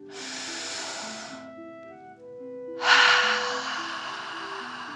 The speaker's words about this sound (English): Again, breathe in through your nose and out through your mouth, pretending you are breathing fire. Deep breath in and out.